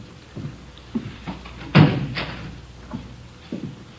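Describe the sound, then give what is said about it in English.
The door of the chief of detectives' office, room 26, swings shut with one solid, fairly loud thud and a short rattle, surrounded by faint soft taps and background noise. “Did you close the door, Friday?”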